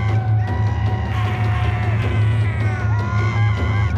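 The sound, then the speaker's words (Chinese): A mass of male voices, Amalekite warriors charging down the opposite hillside, yelling together in a sustained, loud war cry, overlapping shouts rising and falling over a steady low rumble, with no pauses for about four seconds. “亚玛利人一边喊叫，一边从对面的山坡上冲下来。”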